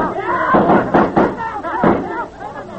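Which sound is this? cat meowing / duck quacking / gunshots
gunshots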